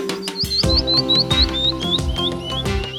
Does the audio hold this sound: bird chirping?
yes